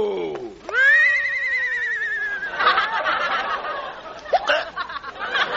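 A single loud horse whinny, rising sharply into a long, strained cry that breaks into a shaky, fluttering neigh as it trails off, with no one talking.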